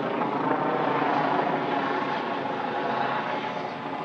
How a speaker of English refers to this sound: Yeah, I know the police have to do their business, but why is that helicopter so damn loud? Probably because it's hovering just above my house.